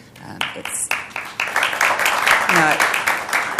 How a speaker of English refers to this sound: I appreciate the applause, but I really don't deserve it.